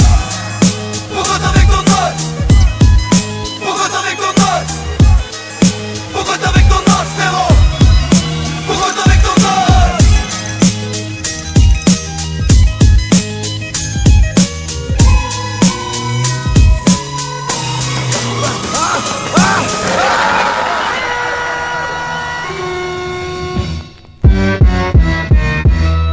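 A rap track plays loud on Radio U, with a steady punchy beat and dense layered instrumentation, briefly dropping out near the end before the beat kicks back in.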